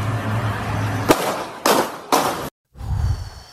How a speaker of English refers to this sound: You can hear a young woman asking where the shots are coming from, and then you'll figure out the rest.